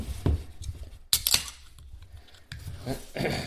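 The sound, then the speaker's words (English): A beer being cracked open: a sharp metallic snap and short hiss stand out amid light clinking and handling noises, with a softer rustle near the end. “Cool, let's crack it open.”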